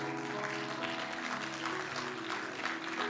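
A church audience claps steadily throughout a sermon, a dense, continuous crackle of many hands at even loudness, with sustained low musical tones humming underneath.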